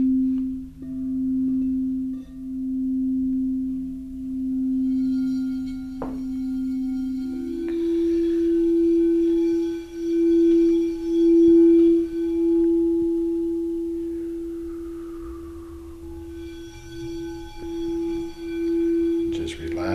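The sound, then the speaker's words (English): Smooth, sustained relaxation tones hum steadily for the whole stretch, with a soft layered drone that steps up slightly in pitch partway through and swells gently in volume, like slow breathing. “I'm going to sit back, relax, enjoy the tones. I'm now going to let the tones do their job.”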